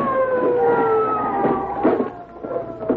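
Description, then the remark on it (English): A police car siren wails as the car stops in front of a house, its steady tone slowly sliding downward as if winding down, over a rumbling background of engine and street noise. “The police car stopped in front of the house.”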